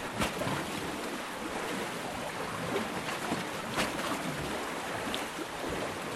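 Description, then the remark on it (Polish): Waves slap and break against concrete breakwater blocks near the mouth of the Dziwna river, the water spilling through inside the blocks, in a steady wash of surf with scattered sharper splashes cutting through the continuous roar. No voices are heard. “To akurat nagrywałem koło ujścia rzeki Dziwny, no ale to ogólnie przy falochronach tak jest, jak są te takie betonowe bloki. Te fale, które w nie uderzają, no tam bardzo charakterystycznie brzmią, bo gdzieś ta woda tam się przelewa wewnątrz,”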